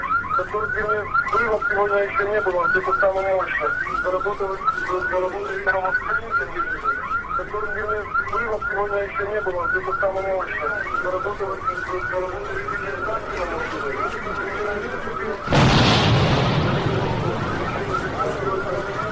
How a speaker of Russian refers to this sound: потому что никто не ожидал взрывов, и следующий взрыв звучит через 23 секунды.